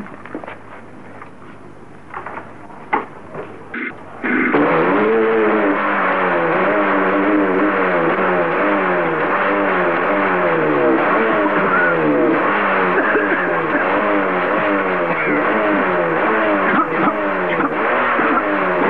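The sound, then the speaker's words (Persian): An engine cranks with a few sharp clicks and sputters, then catches and settles into a loud, steady running drone with a wavering, slightly rising and falling pitch. “موتور روشن.”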